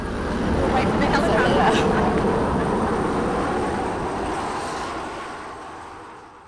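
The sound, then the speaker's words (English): A helicopter passes by with a loud, throbbing rotor rumble that swells in the first couple of seconds and then gradually fades as it moves away, in the chaotic aftermath of a storm, with tanks also passing by. “They were living in their car and sat outside on a cardboard box to speak in the chaotic aftermath of the storm, helicopters and tanks passing by.”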